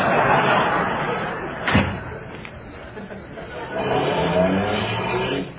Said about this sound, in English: Can't this car go any faster? Well, we get it started, may go a little bit faster. They could go faster, but I'm too tired to get out and push.